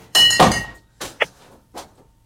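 A short burst of wine splashing as it is poured into a glass, the 2018 vintage, followed by a few light glassy clinks and taps, fairly loud, with no one talking.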